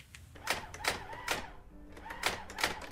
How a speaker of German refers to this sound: Die Schreibmaschine rattert.